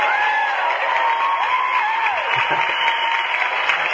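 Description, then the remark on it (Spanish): A crowd applauds steadily and loudly throughout, a dense wash of clapping with a few rising and falling whistles or whoops mixed in. No one speaks over it. “Y un aplauso.”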